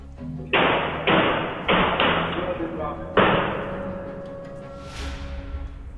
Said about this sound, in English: Seconds later, five gunshots ring out off-screen.